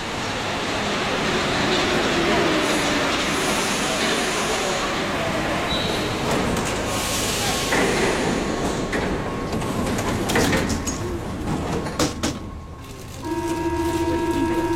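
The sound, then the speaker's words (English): A Paris metro train on Line 4 rumbles along underground, a steady loud roar with rattling wheels, squeals and a brief door or brake sound, while people talk faintly in the carriage. “Oh, we're now on the metro.”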